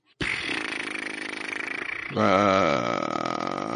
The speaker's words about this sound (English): Yeah. That sounds like a seal. It's a good guess.